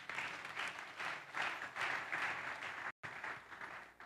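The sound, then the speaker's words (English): An audience claps their hands for Jesus with steady, dense clapping that swells and ebbs, broken by a sudden brief silence near the end before the clapping resumes. “Have I helped you to clap your hands for Jesus?”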